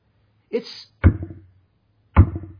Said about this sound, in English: notice that Jesus here is speaking to the church, to professing believers, saying he stands at the door and knocks. And in that context, this knock, this isn't the knock of invitation.